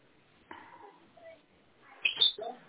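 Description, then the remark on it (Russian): A few brief bird chirps come through faintly in the background of a caller's phone call to a dispatcher, over a narrow, phone-like line, scattered irregularly with quiet background noise between them and no one talking. “Ой, что-то у вас там. За птичку.”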